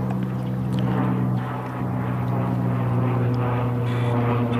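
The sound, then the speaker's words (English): A propeller airplane drones steadily overhead, its low engine hum constant and fairly loud throughout with a harmonic buzz, no voices present. “Lots of traffic here. Dog walkers, cars, like planes up above.”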